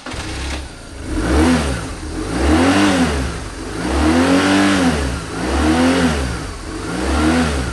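A motorcycle engine revs loudly, its pitch climbing and dropping in about four rhythmic surges, with no voices over it.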